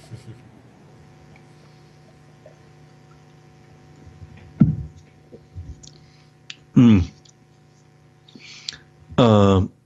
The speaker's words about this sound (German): Und bei der Gelegenheit werde ich einen Schluck Wasser trinken.